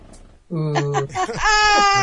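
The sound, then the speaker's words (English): A person bleats a drawn-out, wavering "baa" in imitation of a sheep, loud, lasting about a second and a half after a brief quiet start. “Do you know what he said after I said bah? He said, not a sheep, I'm a shepherd.”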